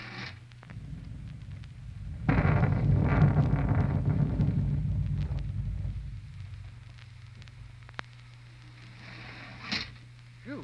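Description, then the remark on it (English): A loud, low thunderclap rolls in suddenly and rumbles off over several seconds, with a steady wind-and-rain wash, rain that has been falling steadily for three hours, and a faint hum beneath it throughout; no one speaks. “Huh, kind of looks like a storm coming up, doesn't it?”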